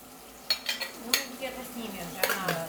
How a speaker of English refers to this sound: makes tea at their home near London